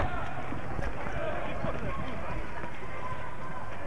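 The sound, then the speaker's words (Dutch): A crowd of demonstrators runs as a demonstration at a university square on 12 October, Hispanic Day, gets out of hand, a dense, continuous rush of footsteps and commotion, loud throughout, with indistinct voices mixed into the noise. “Nou, wordt gelijk rennen.”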